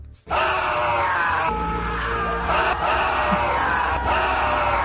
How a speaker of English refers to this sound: So much screaming. You won't do that the next time you get victory buns. Wake up everyone in the house.